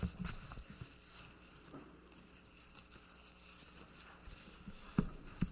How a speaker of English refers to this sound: Psalm 95. When I stop hearing the pages turn, then I'll know we have found it.